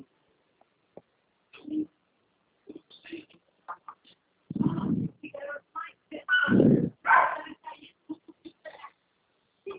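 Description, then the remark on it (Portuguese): A small dog barks and yips in a string of short, irregular bursts, with two louder, longer outbursts near the middle, heard over a phone line, with faint muffled voice sounds between them. “Um cachorrinho.”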